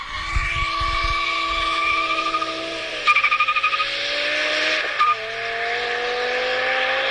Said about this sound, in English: That's what a BMW with a V10 sounds like.